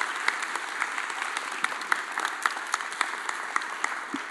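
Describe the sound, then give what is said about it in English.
A crowd applauds David steadily, many hands clapping in a dense, even patter with occasional sharper claps poking through, sustained throughout without any voices. “Can we just give David a big round of applause?”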